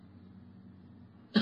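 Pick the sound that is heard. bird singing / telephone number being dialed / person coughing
person coughing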